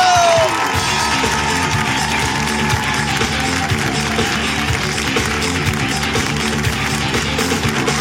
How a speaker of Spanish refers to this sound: Y que siga ese aplauso, que crezca